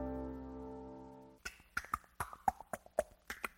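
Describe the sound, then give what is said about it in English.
A steady low hum gives way to a quick series of about ten sharp tongue clicks made in the mouth, in an uneven, clip-clop-like rhythm, with no talking. “It's just my tongue making a clicking sound in my mouth.”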